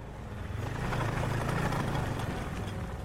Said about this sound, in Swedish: En gubbe på dryga 80 år kommer på en monsterskoter, dundrande genom snödriver och nysnö så att det yrde.